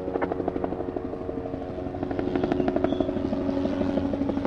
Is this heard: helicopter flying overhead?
yes